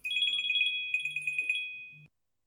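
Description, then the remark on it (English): A telephone rings in two rapid warbling bursts, a bright electronic trill pulsing quickly and clearly, then cuts off abruptly into silence. “While we're gone, I shall answer that phone.”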